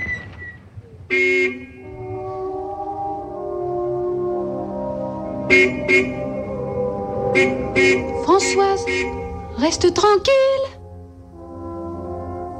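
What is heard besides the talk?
car horn honking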